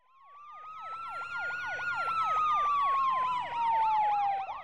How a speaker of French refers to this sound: Un jour, la sirène hurlante arrache notre narratrice de son sommeil. Une voiture de police et une ambulance se garent devant son immeuble.